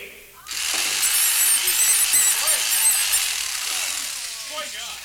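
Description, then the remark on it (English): A power drill whines loudly and continuously, starting abruptly after a brief pause and running steadily for several seconds with a high-pitched, slightly wavering tone. “Then Iggy takes a power drill to the bunny.”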